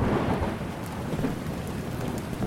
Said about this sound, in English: Moments later, it started to rain.